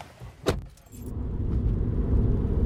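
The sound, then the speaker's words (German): A sharp clack, like a car door or jangling keys, is followed by a car engine rumbling up and settling into a steady low drone as the car pulls away to drive back, in Fairbourne, Wales. No one speaks. “Wir fahren mit dem Auto wieder zurück.”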